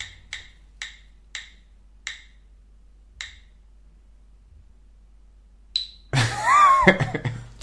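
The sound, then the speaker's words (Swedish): A spinning game wheel clicks sharply, the ticks spacing out further and further as it slows to a stop, followed by a sudden burst of loud, busy sound. “Då hör man på ljudet att det är en litet annat hjul här.”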